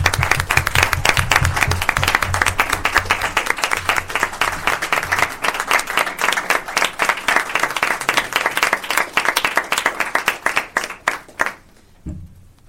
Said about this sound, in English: We should all give them a really great round of applause.